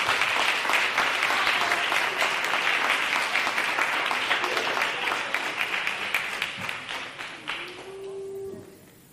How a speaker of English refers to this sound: Let's give God a hand clap of praise as we stand to our feet in this place.